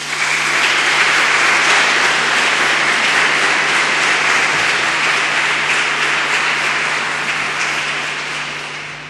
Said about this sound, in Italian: E allora io vi pregherei già di accoglierli con un applauso.